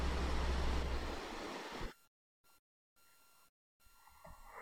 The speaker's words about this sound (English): Oh, I know what that sound is. That sound is my air conditioner.